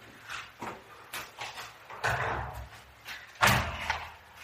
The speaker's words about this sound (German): machst du die Tür auf? Du kannst das so schön.